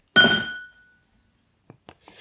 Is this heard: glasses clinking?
yes